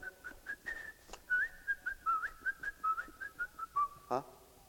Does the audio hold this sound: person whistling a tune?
yes